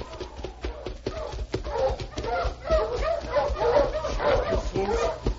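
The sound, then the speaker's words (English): A dog named King barks and yips repeatedly in quick, excited bursts as it comes up behind a man being arrested, loud, with whimpering between barks and people talking over it. “My dog's right behind you.”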